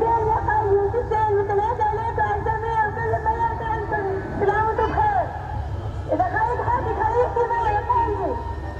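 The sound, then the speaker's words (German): A dense crowd protesting at a fence, from short phone recordings shown in an exhibition, roars continuously, with individual voices shouting and rising into wavering screams over a steady low rumble, loud throughout with no pauses. “Und da war Rufen, da war Schrei, da waren Schreie. Und das hörte sich so an.”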